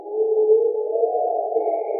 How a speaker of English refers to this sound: I was very tired, and I had my headphones on and my microphone outside the tent because I was recording the nighttime sounds. I heard the hyenas yowling.